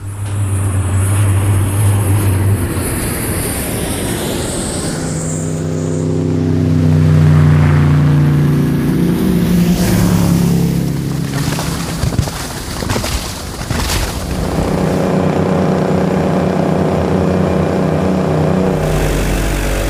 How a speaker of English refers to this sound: Anchors Away is all decked out from stem to stern with a full complement of exterior and onboard sounds, plus other related nautical effects. Here's a sample.